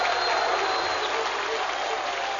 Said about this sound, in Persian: دم اونا هم گرم، به افتخار اون علوی های کف بزن بینم بابا.